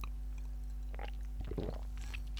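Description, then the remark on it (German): Quiet lip smacking and wet mouth clicks come in a few short clusters over a low steady electrical hum, with no talking. “Ich schmatze wieder so, ich merke es gerade.”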